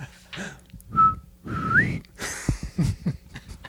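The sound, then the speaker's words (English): A person whistles a short imitation of a bird call: a steady high note, then a rising slurred whistle, followed by breathy noises and clicks with no words spoken. “Need to work on your whistling skills.”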